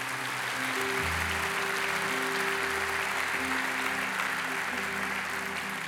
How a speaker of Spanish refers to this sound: Denle un aplauso al Señor por eso.